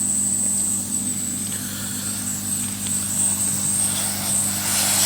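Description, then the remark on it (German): A hot air rework station blows steadily throughout, heating the components around a chip on a circuit board, a continuous airy rush with a low motor hum and a thin high-pitched whine riding on top. No one speaks. “Und auch eine gute Sache, was ich häufig mache, ist, ich föhne gar nicht zuerst den Chip, sondern föhne Komponenten drumherum, weil dann kann ich erkennen, ob genug Wärme schon in der Platine drin ist.”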